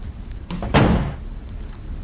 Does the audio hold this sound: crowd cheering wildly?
no